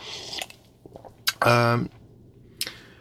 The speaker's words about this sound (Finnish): Nyt mä otan kahvia tältä hörpyn.